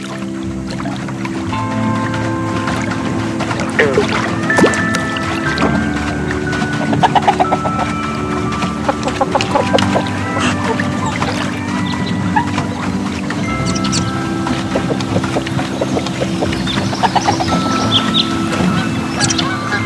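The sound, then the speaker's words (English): A pedal boat moves steadily across a lake with a continuous low churning hum and water sloshing, while occasional bird or duck calls chirp faintly in the background. “Now, let's keep pedaling and exploring more of the lake.”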